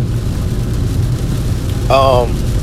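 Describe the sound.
Steady rain patters on a car being driven to the gym, over a low road rumble, a continuous wash of noise, interrupted near the end by a brief voiced sound.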